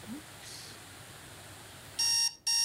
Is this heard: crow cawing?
no